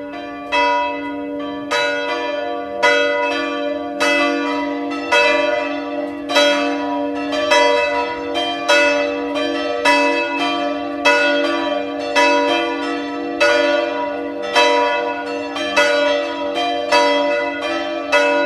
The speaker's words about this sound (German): Es ist 12 Uhr. Sie hören die Glocken der Pfarrkirche Waldbach in der Steiermark.